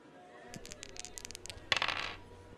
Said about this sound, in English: Okay, let's go. Dice roll number one.